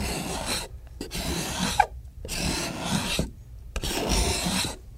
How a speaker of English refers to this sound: And see what it does? It smooths out the plane marks. Mm-hmm. Scrapers were used in lieu of sandpaper long before there was such a thing as sandpaper.